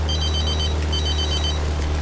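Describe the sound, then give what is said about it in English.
A telephone rings twice in bright, trilling bursts with a short pause between, as a call is forwarded to Dr. William Jennings' room at the Grand Hotel. A steady low droning seaplane engine hum fills the background. “The phone operator forwards the call.”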